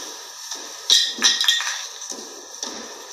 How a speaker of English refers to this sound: Spray can got thrown. Spray can out of nowhere. I was like, what the f*** is that?